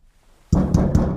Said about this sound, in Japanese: やめろ、やめなさい。扉を叩くのは危ない。今エレベーターは多分宙吊りの状態だ。揺らすのはさすがに。